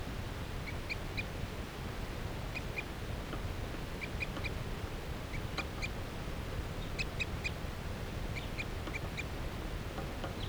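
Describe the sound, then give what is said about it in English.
A wild bird perched in a tree along a net calls again and again in short bursts of high, thin peeps, often two or three at a time, over a steady low background rumble. No one speaks. “That bird is perched up in the tree along the net.”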